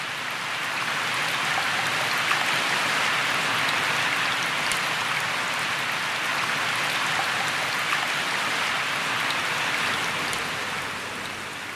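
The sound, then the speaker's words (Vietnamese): Steady rain pours down continuously, a dense hissing wash of drops striking surfaces, fairly loud, holding an even level throughout with no voices. “Ngày hôm ấy, sau khi làm mưa đủ ba thước 42 giọt, các thần lục tục thu xếp định kéo về,”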